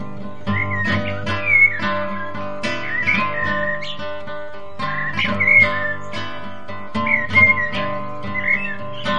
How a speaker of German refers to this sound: Echt nicht unfinster, dieser Wald. Was das wohl für Vogelstimmen sind?